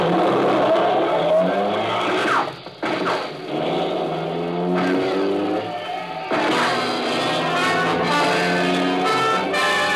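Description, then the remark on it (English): A car speeds away at 80 in a chase, with a loud, continuous engine roar and changing pitch as it accelerates, with brief tire skids along the way; the engine stays dominant throughout, with no voices. “Losing them at 80. You picked a good car for a hot.”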